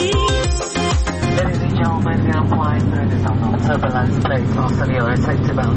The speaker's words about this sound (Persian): گفتش که الان میریم تو مرحله تکون و اینا، هواپیما تکون داره. دعا کنین که چیزی نشه، من برم کمربنده و محکم ببندم.